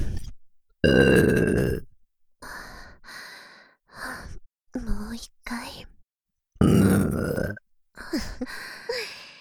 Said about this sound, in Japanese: JK のゲップで興奮しちゃう変態お兄さん。